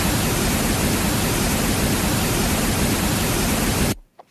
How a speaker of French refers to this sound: Ceci serait un bruit rose.